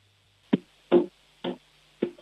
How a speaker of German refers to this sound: Du, dann hätte ich gesagt, du gehst jetzt mal zu einem Fenster und klopfst mal an das Fenster.